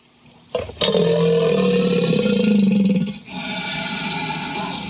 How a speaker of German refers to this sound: Dann gehen wir bei dem Stammbaum ein bisschen stammabwärts und kommen zu Krokodilen. Krokodile klingen so.